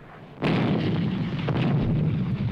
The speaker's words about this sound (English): In 1935, the sound of gunfire, gunfire in earnest, heralded a new phase in international affairs. On October the 2nd, Italy invaded Abyssinia.